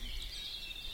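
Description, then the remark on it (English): High, continuous birdsong from a blackbird and a grey warbler, steady and moderately loud over a low background rumble, with no one talking. “There's a blackbird singing and a grey warbler.”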